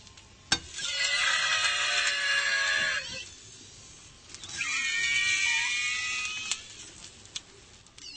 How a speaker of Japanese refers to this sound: 実はこの悲鳴のような鳴き声の主は玉こんにゃく。この動画、世界中にニュースを配信する通信社ロイターにも取り上げられ、日本の悲鳴を上げる食品玉こんにゃくとして紹介されているんです。